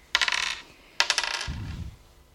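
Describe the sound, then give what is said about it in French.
Dice are re-rolled, rattling and clattering across a hard surface in two quick rolls, the second one ending with a dull low thump as they settle. No one speaks. “Je relance les dés.”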